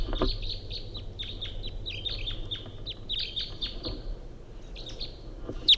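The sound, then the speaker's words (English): A wild male bird, sitting in the top of a small ponderosa pine, calls in a steady series of short, high chirps and clucks, repeating roughly twice a second over a low continuous rumble, with one sharper, louder note at the end. “Recording 806, wild bird coming in.”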